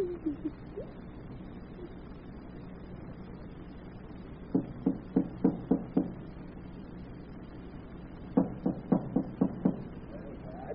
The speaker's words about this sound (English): I'm coming. Don't knock the door down. Who is it? Who's there?